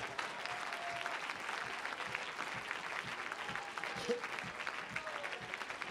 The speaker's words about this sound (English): Praise God. Clap your hands to him and bless his name.